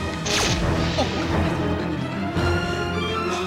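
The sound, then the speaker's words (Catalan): A defibrillator shock effect as a doctor gives a patient a shock: a sharp, loud zap with a bright electric whine and sweeping tone, followed by a sustained humming, ringing tail that fades slowly with no voices. “El metge aplica una descàrrega en David.”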